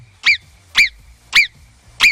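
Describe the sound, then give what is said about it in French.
Four sharp, high-pitched marmot whistles repeat at an even, quick pace, each a short piercing yelp, loud with a faint low rumble underneath and no talking. “On aura eh bien aussi le jeu de la marmotte, parce qu'aujourd'hui, oui, c'est la journée de la marmotte, et une marmotte, ça fait ce bruit.”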